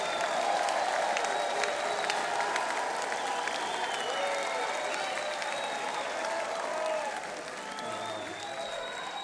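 crowd, audience applause

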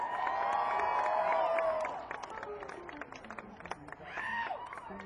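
crowd, audience cheering and applauding

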